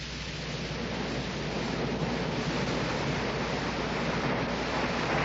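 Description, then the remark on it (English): A steady, dense wash of surf breaking on the shore at Lowestoft, heard loud as a continuous hissing roar without distinct pauses between waves. No voices. “I decided that that day, after the falling of the picture, was a day to be spent by the sea. So accordingly, I went to Lowestoft.”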